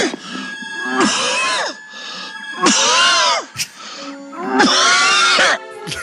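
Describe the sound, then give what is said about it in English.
A voice imitates a priest coughing badly with a dry, hacking cough: three long, harsh, raspy bursts with strained, groaning pitch, each about a second, separated by short pauses and gasping breaths. “Listen to a priest cough badly.”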